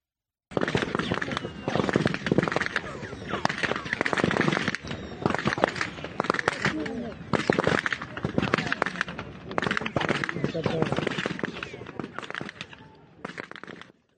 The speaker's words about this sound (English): Israeli forces firing on Palestinians near the Zakim crossing on July 28th, and just a warning that you'll hear a lot of gunfire.